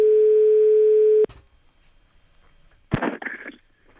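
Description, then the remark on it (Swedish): A single steady, buzzing telephone ringing tone sounds for just over a second on an outgoing call about an advertised place to rent for a horse, then cuts off into near silence before a sharp click and a brief rustle, like a handset being picked up. “Men vi ringer alltså för att hyra plats för en häst.”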